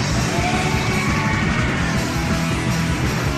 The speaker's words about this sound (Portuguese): Teve um grito aí atrás, né?